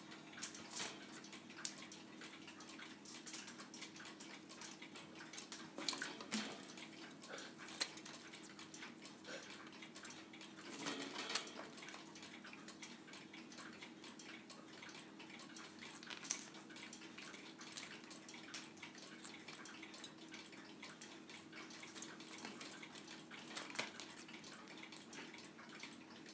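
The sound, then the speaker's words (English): Faint, intermittent splashing and flicking of water as a pet named Rio bathes in freshly changed water, throwing water everywhere, with scattered bursts over a steady low hum and soft ticking of clocks; nobody speaks. “I hope this is going to be a recording of Rio bathing.”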